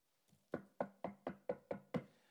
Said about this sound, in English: Rasta man knock on the door. Person say, who that?